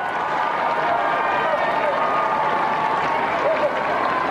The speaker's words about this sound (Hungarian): Ferenc pápa húsvét vasárnap elhangzott Urbi et Orbi áldását hallhatják az erdélyi Mária Rádió tolmácsolásában. Akinek a megjelenését öröm, taps, örömújongás kíséri a téren jelenlevő zarándokok részéről, hívek részéről.